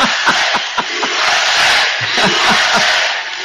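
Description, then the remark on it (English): A large crowd at a Trump rally roars loudly and continuously, with rhythmic shouted chanting pulsing through the dense wash of cheering voices, overwhelming for the whole stretch. “I don't know if you can hear how wild this crowd is.”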